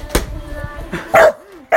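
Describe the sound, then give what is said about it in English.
The speaker's dog barks loudly twice, sharp high-pitched yaps about half a second apart, with a brief whiny tone between them and a soft thump and murmur just before. “Yeah, but if you're attacking me, he'll bark.”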